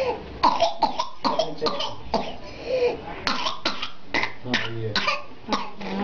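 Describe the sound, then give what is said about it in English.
A child's violent whooping cough fit, from a video clip on the Mayo Clinic's website: rapid, harsh coughs in a relentless series, loud, with strained, high gasping breaths squeezed in between the bursts. “It's quite contagious, causing someone to cough so violently they almost suffocate, as heard here from this video clip on the Mayo Clinic's website.”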